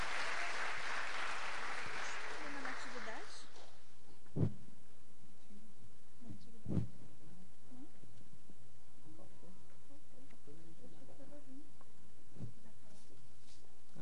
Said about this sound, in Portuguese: Uma salva de palmas aí, Senhor, para eles. Aleluia.